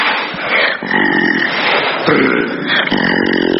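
A white tigress named Tigrulya vocalizes in a loud, rough, sustained growl-like moan with a droning tonal quality, lasting a few seconds with slight pitch shifts and no pauses.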